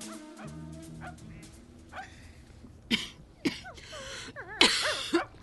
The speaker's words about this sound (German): Die Frau hustete und sah beinahe so krank aus wie ihr Hund, der schlaff auf dem Boden lag, wie ein altes, schmutziges Laken.